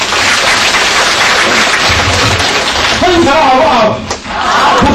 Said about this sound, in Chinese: 再给他们一个掌声。